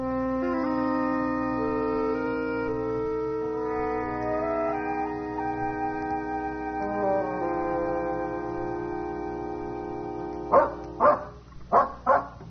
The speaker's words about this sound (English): It can't be much longer. That dog is definitely leading us somewhere. Sure. Probably to a bone he buried last month.